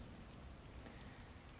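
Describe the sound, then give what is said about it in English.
Steady rain falls straight down on a calm day, getting heavier, in a constant, even hiss with soft patter, unbroken, with no voices or wind. “Strangely again, straight down rain on a calm day.”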